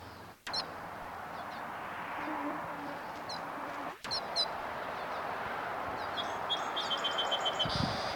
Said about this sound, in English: Birds overhead.